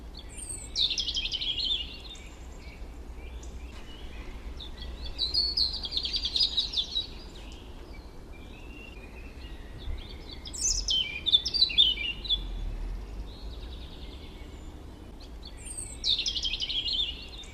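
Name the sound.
european robin song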